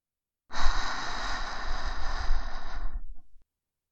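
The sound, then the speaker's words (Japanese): One long, airy exhale right against the right ear, a steady breathy rush lasting about three seconds before it trails off softly. No voices accompany it. “やっぱり、耳元で吐息の音聞きながらシコシコしても、エッチな気分にはならないかな。”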